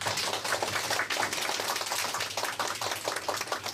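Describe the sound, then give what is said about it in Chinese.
A church audience applauds to welcome a guest preacher, with dense, steady clapping from many hands that holds an even, fairly loud level for a few seconds with no voices over it. “很感谢有这样的机会，我们一起来听神的话语，我们掌声来欢迎他好不好？”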